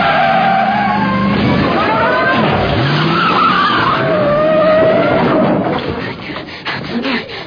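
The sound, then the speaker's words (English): A rental car revs and its tires squeal and skid in a sustained, loud screech with grinding and scraping, then a rough thump-and-rumble as it reverses fast over a 2-foot concrete abutment without slowing down. “You just backed over a 2-foot concrete abutment and you didn't even slow down.”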